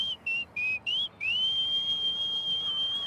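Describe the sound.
A clear, high whistled melody imitating a blackbird perched on the edge of a window in the morning: four short rising and falling notes, then one long sustained note that holds steadily to the end, fairly loud over faint background hiss.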